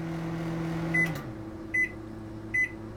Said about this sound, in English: I'm cheating by editing in a crescendo, but the beeps let you know that my microwave is done.